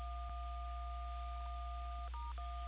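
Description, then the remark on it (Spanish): A steady pair of electronic keypad tones, from a caller's cellphone screen being touched during a phone call, sounds continuously, then shifts briefly to a different dual-tone pitch before returning, heard over a low telephone-line hum with no talking. “sí, lo que pasa al parecer está topando la pantalla de su celular y se ha cortado la llamada.”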